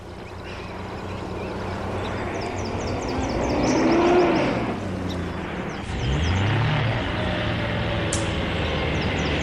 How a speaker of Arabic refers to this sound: ما هذه الأصوات؟ ها إنها سيارة الصيادين، يجب أن نهرب.